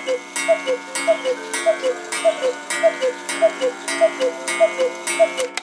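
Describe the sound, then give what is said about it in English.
The biggest of several cuckoo clocks strikes ten, sounding a steady series of loud two-note cuckoo calls in an even rhythm, each pair ringing with a reedy, whistle-like tone. “And finally, the biggest of the cuckoos. I've got to show you this one because it's hilarious. There you go. I'll let that one strike 10 because it's loud and big.”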